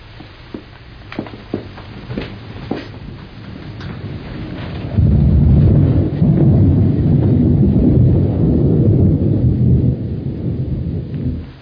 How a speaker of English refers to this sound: There was thunder in the distance, and I was just saying to Mrs. Fenning that there was a storm brewing